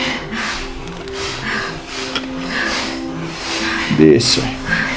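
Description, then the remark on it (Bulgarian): Rapid, forceful bellows breathing of bhastrika pranayama: sharp, hissing breaths pumped in a steady rhythm, about one a second, over a low sustained hum. “Бастрика пранаяма.”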